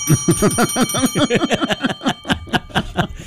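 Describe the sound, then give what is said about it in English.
A small bell rings rapidly and continuously for a few seconds, a bright jangling trill with a lingering metallic ring, fairly loud, with no one talking. “I got something kind of exciting to share with the listeners. Oh, this will be great. We have two bells now.”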